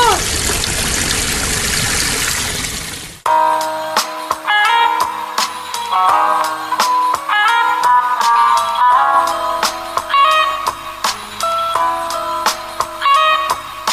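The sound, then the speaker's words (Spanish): A loud, steady rush of water gushing from a hose onto a fire fills the first few seconds, then stops abruptly and gives way to music with sharp percussive hits. “¡Yo cargo acá la canilla! ¡Pasame, pasame!”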